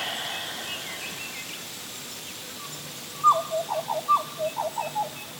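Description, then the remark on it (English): A female butcherbird sings in a rainforest, a short run of clear, fluting whistled notes in quick succession, moderately loud over a soft, steady background hiss. “There's the butcher bird again.”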